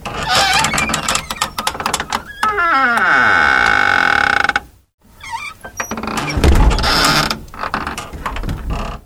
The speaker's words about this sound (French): Soudain, lorsque les pas de la logeuse se furent assourdis, nous entendîmes le grincement d'une clé, la poignée tourna.